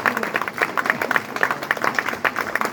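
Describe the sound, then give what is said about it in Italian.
A concert audience gives a second round of applause after a deliberate false ending of a musical piece, many hands clapping in a dense, continuous patter at moderate loudness, with no talking over it. “e così abbiamo avuto un secondo applauso.”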